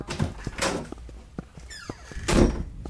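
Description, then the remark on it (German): A door is pushed open with a scraping rush and a brief creaking squeal, followed by a louder swish and soft knocks and thuds, with no voices. “Die Tür hier steht ein Stück offen.”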